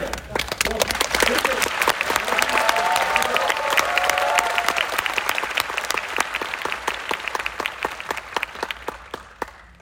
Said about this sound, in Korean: 다이뉴스 카운터 대로서 로고 나오고 너무나 전체를 내가 알았다 이럴 때 박수가 크게 많이 한 번 부탁드리겠습니다.